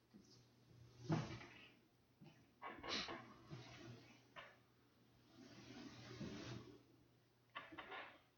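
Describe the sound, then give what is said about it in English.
Faint, irregular creaks and soft knocks from a wooden stage floor shifting under weight, scattered across several seconds over a low steady hum, with no one talking. “The stage can get creaky when it gets quiet.”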